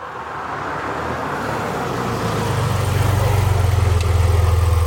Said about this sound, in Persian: تا صدای ماشین رو شنیدم، روپوش روسری رو پوشیدم، از پله ها سرازیر شدم.